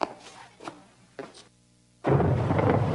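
A few soft thuds, then a sudden loud crack of thunder that rolls into a heavy, sustained rumble. No one speaks.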